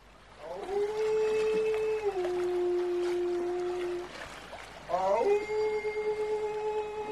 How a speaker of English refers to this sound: Then, above the gentle lapping of the waves, I perceived a sinister banshee wail.